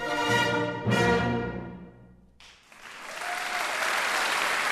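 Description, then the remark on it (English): An enthusiastic crowd at SEPO's sold-out first concert in Bremen, given by Syrian musicians, bursts into loud, sustained applause as the last chords of a piece ring out and fade. The steady clapping continues to the end. “The group actually ran out of encores and had to play one piece over again for the enthusiastic crowd.”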